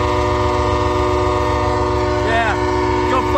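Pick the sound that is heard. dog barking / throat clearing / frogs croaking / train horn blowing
train horn blowing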